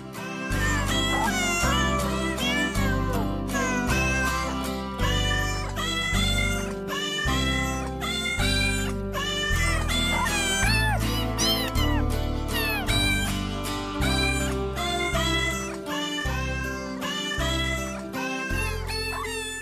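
Cat meows strung together into a Christmas carol melody, pitched up and down over a steady musical backing with bass, loud and continuous for the whole stretch, with no talking.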